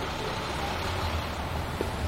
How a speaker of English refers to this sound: And for Schaefer, these are closer to the sounds associated with cities, traffic, and transit, stuff like that. You can get an idea of what I'm talking about right now.